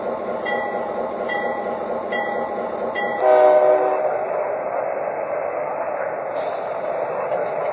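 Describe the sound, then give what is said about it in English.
A Pennsylvania Railroad Aerotrain locomotive, number 16, rumbles steadily with faint rhythmic clicks, then one loud, harmonically rich horn blast sounds for about a second before the engine noise continues alone. “number 16, the Pensy Aero Train.”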